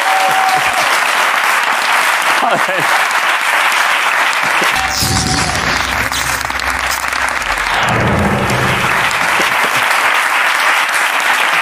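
Sustained applause from a studio audience, a dense, loud wash of clapping that holds steady throughout, with a few faint tones and low rumbles beneath it partway through.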